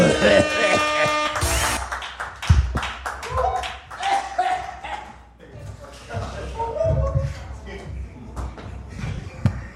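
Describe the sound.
An audience breaks into applause for a guest being introduced, after a brief tonal musical sound, with many hands clapping in a dense, steady patter, joined by scattered voices and cheers, lasting throughout.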